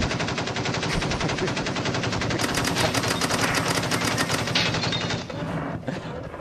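A loud, rapid burst of machine-gun fire sound effect, used for a rapid-fire question segment, rattles continuously for several seconds, dense and unbroken, then trails off near the end; no voices are heard.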